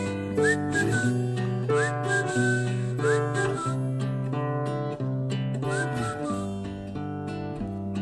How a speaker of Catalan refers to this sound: Sí, jo crec que és més elaborat, el Silvo Gomero. Una mica més. Aquest, per mi, és el Silvo de pastor de poble.